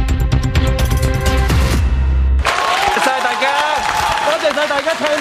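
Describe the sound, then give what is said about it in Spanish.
A short burst of tonal music gives way to steady applause from a crowd for the directors of the newspaper Apple Daily. Dense clapping mixed with voices and shouts continues loudly to the end. “Son los aplausos que reciben los directores del diario Apple Daily, crítico contra el gobierno chino y herramienta clave para el movimiento pro-democracia.”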